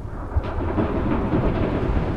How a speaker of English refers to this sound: It is raining. The rain pours through the slats and down.